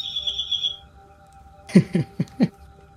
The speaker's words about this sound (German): Wir haben eine Vogeluhr in der Küche. Ah ja. Ah, okay. Und wenn die Vögel zwitschern, ist es Zeit.